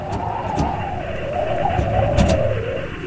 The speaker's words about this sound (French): La RN16 est un axe vital entre Bamako et Gao. Nous y croisons des pick-up, des camions de marchandises surchargés, des semi-remorques collées à la route qui avancent au pas, tour de roue après tour de roue.